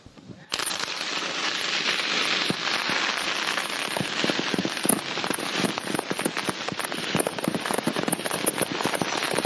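A dense, continuous barrage of confiscated illegal firecrackers being destroyed by the NYPD Bomb Squad in New York on July 1, 2011, around 11:05, bursts suddenly and keeps rattling and popping without pause, loud, like a long string of rapid crackling explosions.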